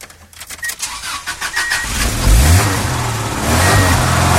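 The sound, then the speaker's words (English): A 1975 AMC Pacer's starter cranks in a quick, rhythmic churn for about two seconds before the engine catches with a loud, low roar and revs, settling into a rough, steady rumble, outdoors after rain. “You can listen to this baby purr here.”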